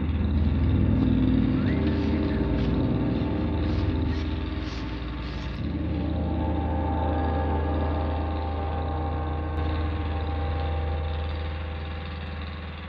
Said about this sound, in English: It helps that a chainsaw itself makes so much noise, adding its own grinding and sputtering to the already droning soundscape.